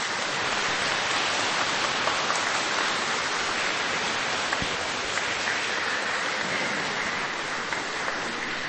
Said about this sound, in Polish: Dziękujemy. Gorące brawa.